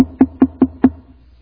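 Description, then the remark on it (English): Four quick, evenly spaced knocks on a solid surface, each a sharp hollow rap with a low thud behind it, fairly loud, then silence. “Now, it would be a fool that would know that there's all this vast supply and all I got to do is go knock.”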